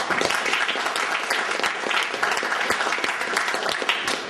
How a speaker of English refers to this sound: A round of applause, ladies and gentlemen.